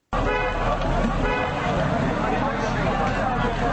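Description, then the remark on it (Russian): Loud, unbroken din of a multi-kilometre traffic jam in Istanbul, Turkey: engine rumble and crowd hubbub, with police whistling and drivers honking horns, the brief horn tones standing out near the start. “Свистят полицейские, гудят от переизбытка чувств водители. Это обычная для Стамбула многокилометровая автомобильная пробка.”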